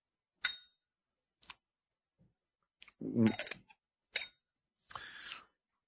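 A small glass lid clinks against a whisky nosing glass in a handful of sharp, bright taps spaced irregularly, with a couple of longer rattling scrapes mixed in. No one speaks.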